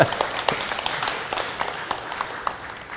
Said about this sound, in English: You can clap. We're allowed.